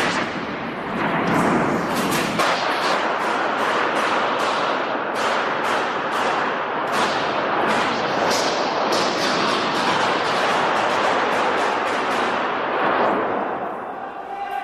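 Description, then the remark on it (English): A long, loud burst of gunfire from RCMP officers and House of Commons security in the Hall of Honor, dozens of sharp shots cracking in rapid, uneven succession and echoing heavily, with a constant roar of reverberation between them. “They unleashed a second wave of gunfire.”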